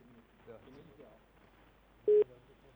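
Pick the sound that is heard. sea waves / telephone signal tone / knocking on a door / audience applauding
telephone signal tone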